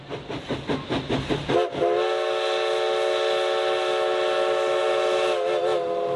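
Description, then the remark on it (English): A historic steam locomotive on a scenic railroad along the Oregon coast chuffs in quick, rhythmic bursts, then lets out a loud, sustained whistle that holds steady for several seconds, with no talking. “The Oregon Coast Scenic Railroad is your opportunity to ride behind the living history of a historic locomotive engine along the beautiful Oregon coast.”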